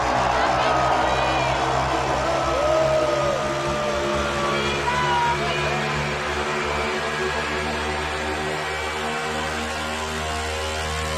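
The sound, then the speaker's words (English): A huge festival crowd at Tomorrowland, urged on by Steve Aoki, screams and cheers in a sustained, loud roar, with shrill individual shouts rising above a steady low hum for the whole stretch. “Everybody fucking scream!”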